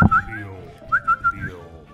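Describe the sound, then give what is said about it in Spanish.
A person whistles a short tune of about five clear, high notes, some held and some sliding, rising and falling in a simple melody with a faint low murmur underneath. “En el parque estaba tranquilo y cantaba a los pajarillos.”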